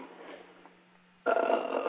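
telephone ringing

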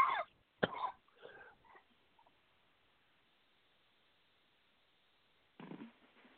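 coughing and throat clearing

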